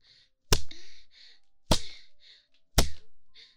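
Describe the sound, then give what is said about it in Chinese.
Three sharp whip lashes crack out at a steady pace, striking a person's body, each a loud snap with a short ringing tail, with soft breathy sounds in the gaps between strikes. “心里隐隐的有一些期待，期待我下一鞭子早点打在你身上啊。”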